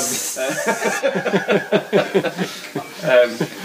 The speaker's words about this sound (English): What's that sound of a constant escaping gas?